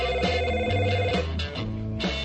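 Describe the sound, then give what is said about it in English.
A telephone rings with a steady, repeating electronic tone that pulses in short bursts, clear and fairly loud, with no voices over it. “Get the phone. Hit the thing.”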